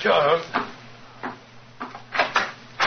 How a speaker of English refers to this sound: Mrs. Hudson's opening the door to him now.